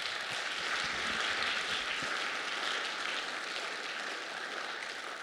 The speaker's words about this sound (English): I want to thank you both for coming on stage and joining us. Please give them a round of applause.